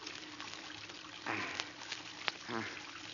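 Water gushes steadily from a faucet opened to put in a new washer, though the water was thought to be turned off, a continuous rushing hiss that fills the whole clip, with a couple of short vocal exclamations breaking in over it.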